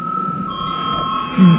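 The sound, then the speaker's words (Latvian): A parliament chamber bell, rung on request before a vote on a bill, rings in one continuous, steady high-pitched tone that holds at an even level for the whole clip, with a brief low vocal murmur near the end. “Lūdzu zvanu.”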